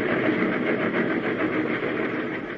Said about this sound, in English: Suddenly, I realized that I was hanging on the side of a speeding train. Fearfully, I climbed the iron ladder, my shoes scraping on the car and the wind tearing at my hair.